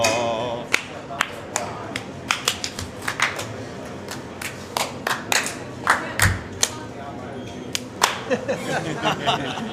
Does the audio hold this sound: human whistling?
no